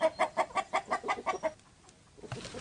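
A chicken on a 61-acre organic farm in Cadiz, Ohio clucks rapidly, about eight quick rhythmic clucks in a row, then fades into quieter background rustling.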